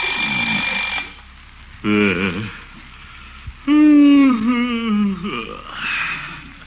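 alarm clock ringing

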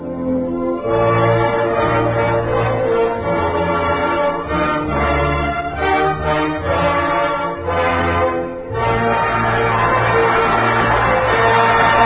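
bell ringing

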